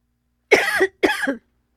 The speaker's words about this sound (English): That was a lot. And it caused me to cough.